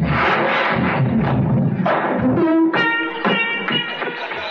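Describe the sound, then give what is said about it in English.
A loud crash as a car smashes through a closed garage door, with heavy thuds, splintering and metallic clattering, then rattling debris settling for a few seconds. No one speaks. “Right into the garage, even if the door is closed.”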